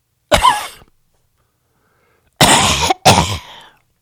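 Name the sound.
imitated throat clearing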